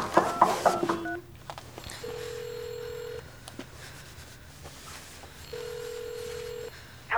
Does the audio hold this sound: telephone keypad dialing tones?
yes